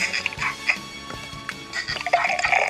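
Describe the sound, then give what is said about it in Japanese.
Beer being poured and spilling, with a bubbly, trickling pour and scattered drips and splatters, lasting a few seconds with no voices. “こぼしてどうすんだ。”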